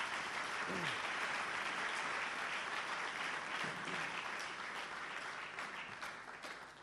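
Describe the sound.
A debate audience claps steadily in a dense, continuous wash of applause that stays loud throughout and eases slightly toward the end, with a few faint voices mixed in.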